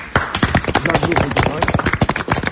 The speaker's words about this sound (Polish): Ja wiecie co, żeby was troszeczkę rozruszać, to zaklaszczemy. Brawo.